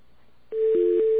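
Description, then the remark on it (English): A steady electronic phone tone begins abruptly and holds, with a second lower tone briefly layered in, like keypad beeps as a code is entered on a BAI phone system over a line signal. Clear, no voices. “It needs a code.”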